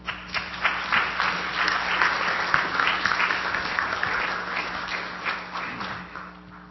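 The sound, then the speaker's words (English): A large church audience applauds warmly to welcome a guest speaker, dense overlapping clapping sustained for several seconds at a steady, moderately loud level before beginning to taper off. “I want to just invite you to welcome him with me.”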